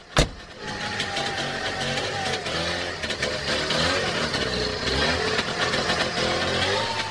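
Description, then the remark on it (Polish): A convertible car's engine runs steadily as it drives off in cold weather, with a sharp click at the start, then a continuous, fairly loud engine drone and road noise with no talking. “ale lepsze wrażenie jest, jak jest jednak kabriolet”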